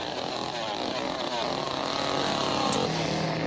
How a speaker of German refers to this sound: Jetzt lassen wir die Säge kreisen.